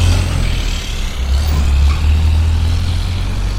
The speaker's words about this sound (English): Apparently big truck there.